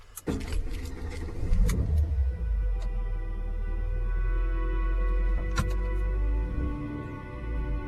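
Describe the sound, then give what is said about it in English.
A car engine rumbles steadily, its low hum rising slightly as the vehicle begins pulling away, with a few faint clicks over the continuous drone and no voices. “The car starts to pull away.”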